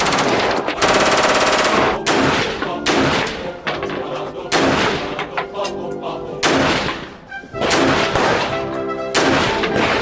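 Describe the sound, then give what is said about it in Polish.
Loud bursts of full-auto fire from a French rifle supplied by Baltic Coast Armory, about five long strings of rapid, cracking shots separated by brief pauses, with a harsh, sharp ring lingering between bursts. “Teraz jest na zero, czyli będziesz miał full auto, nie?”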